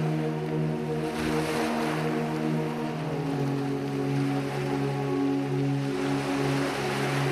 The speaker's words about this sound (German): Nur wenige Schritte braucht es, bis ein unbemerktes Gewässer dem urbanen Kern eine Grenze setzt. Leises Rauschen gibt der friedlichen Ruhe eine sanfte Musik.